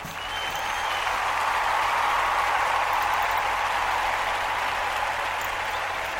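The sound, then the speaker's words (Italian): A burst of steady applause, many hands clapping in a dense, even patter that holds at a constant level for several seconds with no voices over it. “Applausini e via.”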